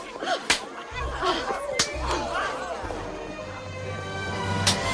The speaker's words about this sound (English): and her two friends slap